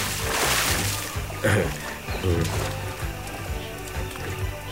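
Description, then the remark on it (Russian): A whistle sounds in the air, then a black body, having missed its mark, plunges into water with a loud splash, followed by several seconds of churning and sloshing as the water settles. “В воздухе раздался свист, и черное тело, явно промахнувшись, обрушилось в воду.”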